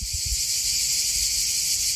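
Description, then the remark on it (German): A steady, dense wall of shrill buzzing chirps from many cicadas in knee-high summer meadows in Albania fills the air continuously, with a faint low rumble beneath and no voices. “Andererseits, so Sommer in Albanien, das hat schon auch was mit flirrender Luft und Zikaden, die in kniehohen Sommerwiesen zirpen. Ich habe das sogar aufgenommen, hör mal.”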